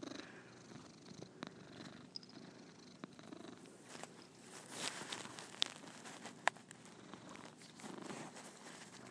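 A cat named Squeaky purrs steadily, a low continuous rumble with soft rustling and a few faint clicks, no voices present.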